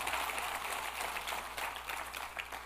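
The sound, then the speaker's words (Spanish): Sustained applause given to the Lord as "the King", a dense, steady wash of many hands clapping with no single claps standing out. It stays fairly even in loudness throughout, with no voices heard. “Dale más fuerte ese aplauso al Rey, por favor.”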